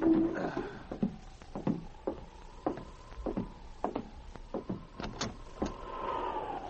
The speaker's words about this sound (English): But one night, as he sat alone in his cabin on Hunker Creek, he heard an ominous knocking at the door.